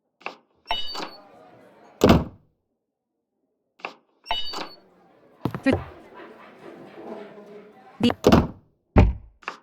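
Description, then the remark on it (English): Heavy wooden door thunks from a video game in a loose irregular sequence, several loud impacts with short rumbling tails, separated by brief quiet gaps and some murmuring background noise. “Through the door.”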